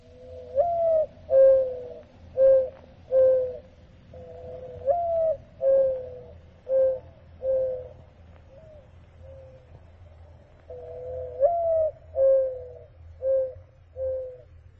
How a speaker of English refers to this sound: The voice of the morning dove for me.